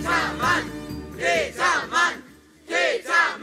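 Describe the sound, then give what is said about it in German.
A group of schoolchildren on a class trip to Amrum, in the film Mein Lotta-Leben 2, loudly chant the name "Petermann" in unison, repeating the rhythmic three-syllable shout again and again with short pauses between each round. “Wenn Petermann für Ruhe gesorgt hat, dann habt ihr nur aufgehört, Petermann zu schreien.”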